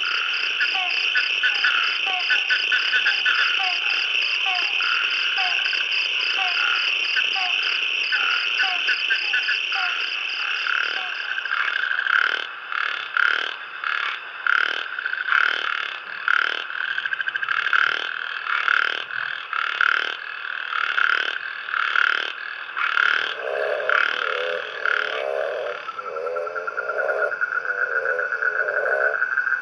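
A dense frog chorus calls in the rain, responding as the first drops fall on the water's surface, with steady high-pitched trills layered together and loud rhythmic pulsing croaks joining partway through, continuous for the whole stretch with no talking.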